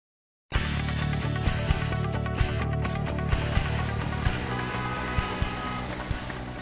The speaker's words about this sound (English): Traffic. It can cause a lot of problems, like traffic jams, noise, and pollution.